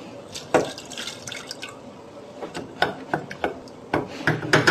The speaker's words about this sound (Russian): А сейчас варим бобы манг. Я их заранее помыла. Окей. Заливаем водой.